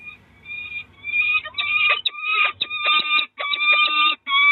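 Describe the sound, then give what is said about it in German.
Four peregrine falcon chicks calling insistently from their nest high on the Schwabenland-Tower, huddled tightly together with beaks open: a dense chorus of shrill, repeated high-pitched cries coming in rapid bursts, loud with brief pauses between. “4 wirklich unglaublich putzige Federknäuel reißen, ganz dicht aneinander gedrängt, die Schnäbel auf.”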